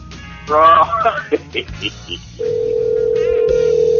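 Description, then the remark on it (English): Garbled, voice-like electronic sounds and a few short beeps from a phone line as a caller who was accidentally hung up on is called back, then a steady, unbroken dial tone hums loudly through the final seconds. “Hang on, my bad. Let me call him back in.”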